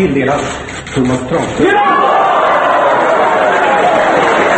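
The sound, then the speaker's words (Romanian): A gathering of journalists breaks into sustained, loud applause after a moment of voices and murmuring, greeting the announcement of Tranströmer's Nobel Prize; the clapping is dense and steady until the end. “A fost înaintat timp de mai mulți ani pentru a primi premiul Nobel, iar anunțul de astăzi a fost întâmpinat de jurnaliști cu aplauze.”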